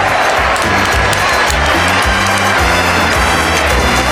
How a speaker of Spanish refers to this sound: Aplausos.